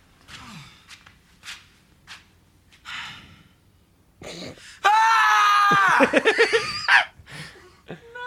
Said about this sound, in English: No. That's the best bit of acting. Just that little scream that he does.